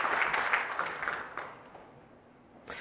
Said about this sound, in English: Thank you for your years of service at Emmanuel Baptist Church. Give them applause, really.